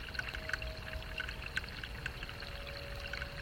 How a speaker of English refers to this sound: but mostly we have been hearing the sound of water as rain has been falling from the skies and dripping from trees when it's not been raining.